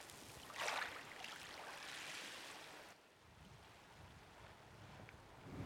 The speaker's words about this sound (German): Hier oben auf dem Friedhof ist es sehr, sehr windig. Ist direkt auf den Klippen, vielleicht 30 Meter über dem Meer.